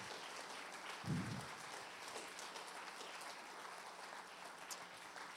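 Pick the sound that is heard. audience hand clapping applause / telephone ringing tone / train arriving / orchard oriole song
audience hand clapping applause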